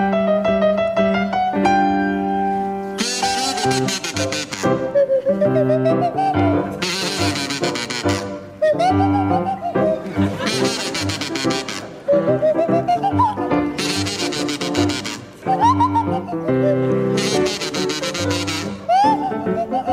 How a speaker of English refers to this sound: You now, Tim and Jeremy, I'd like you to provide us with a rendition of the Mexican Hat Dance to feature Jeremy Hardy on the kazoo and Tim Brooke Taylor on the Swanee Whistle.